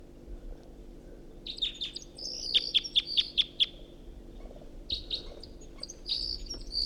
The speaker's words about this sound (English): Flight song of the first bird. And that bird's taking off and perching a dead tree over there.